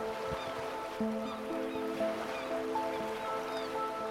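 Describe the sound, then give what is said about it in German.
A steady, soft wash of ocean surf rolls on without clear individual crashes, blended with sustained tonal notes like a gentle ambient music bed. “Du hörst das Rauschen des Meeres.”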